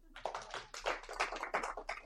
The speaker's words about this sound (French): Bravo, on peut l'applaudir.